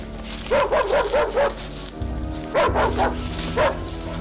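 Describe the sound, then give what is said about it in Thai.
Dogs bark in quick bursts, a run of five sharp barks, a short pause, then another uneven string of barks, loud against a faint hissing background, as people and dogs run toward a pond. “แต่แล้วจู่ๆก็ได้มีเสียงฝีเท้าของผู้คนและสุนัขได้วิ่งตรงมายังบึงที่เป็ดน้อยนั้นอาศัยอยู่”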